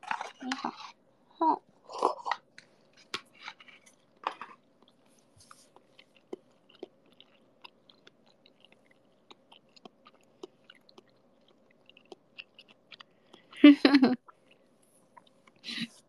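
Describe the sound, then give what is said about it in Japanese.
Wet chewing and mouth sounds of someone eating food with sansho pepper, picked up by an iPhone microphone, come in short bursts, with small clicks and smacks scattered through quieter stretches and a louder crunchy flurry near the end; no one talks. “そう、いつものマイクだとさ、なんかちっちゃすぎる音を入らないようにしてるから、ちょっともぐもぐしてもその咀嚼音はなかなか入らないんですよ、あの ASMR 以外は。”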